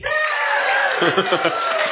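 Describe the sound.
A live audience cheers and whoops together, a dense wash of many voices holding steady for a couple of seconds, fairly loud but slightly muffled.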